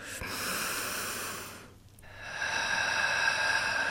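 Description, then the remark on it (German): Audible breathing with no talking during a breathing exercise, inhaling from the pelvic floor: a long airy breath, a short pause, then another steady, slightly louder rushing breath that draws on slowly to the end. “Und wenn Sie eingeatmet haben, den Faden hoch, ganz egal wie weit Sie hochkommen, dann drehen Sie in der Mitte um und atmen wieder runter.”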